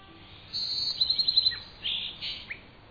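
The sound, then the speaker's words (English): High-pitched bird calls ring out alone in a natural habitat: a sustained whistle breaks into a quick run of five or six chirps, followed by a few separate calls over a faint, steady background. “Imagine you've found your way to a marsh, a forest, or other natural habitat, and you've spotted an unfamiliar bird.”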